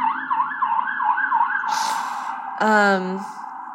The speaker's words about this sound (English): It being New York City, we got interrupted a lot by noise from outside. Sorry if you hear the sirens.